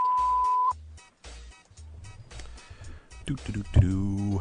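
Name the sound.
answering machine message beep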